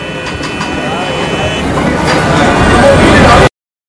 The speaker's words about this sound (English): The world can be a very noisy place. Think Times Square. Billboards flashing all around, cars honking, bikes whizzing by, and people everywhere, some dressed up like superheroes or cowboys to get attention.